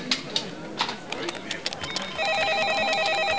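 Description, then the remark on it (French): A telephone begins ringing partway through with a steady electronic warbling trill, fairly loud, after a stretch of scattered clattering and knocking noises with faint background chatter. “Le téléphone sonne.”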